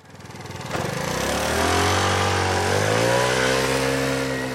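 moped engine revving

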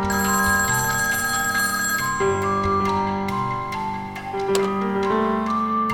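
telephone ringing

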